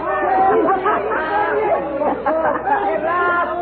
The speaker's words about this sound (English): All the street musicians and the crowds passing on the sidewalk as if it were a parade. All waving and cheering and calling to us.